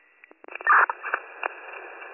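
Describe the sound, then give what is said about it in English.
Crackling radio static over a narrow, tinny band, broken by sharp clicks and pops, with a louder rasping burst early on before settling into a steady hiss. No voice comes through. “You are all static.”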